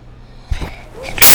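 A single sneeze: a brief catching inhale, then a sharp, loud, breathy burst at the end.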